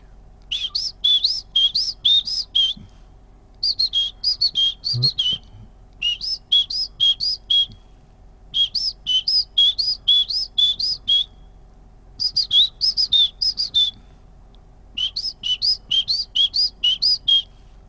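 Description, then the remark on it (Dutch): A person whistles an imitation of a great tit's call: six bursts of rapid, high two-note phrases repeated in quick rhythm, with short pauses between bursts and a low hum underneath. “Ik ga even het geluid van een koolmeester nafluiten in de hoop dat er een op wat afkomt.”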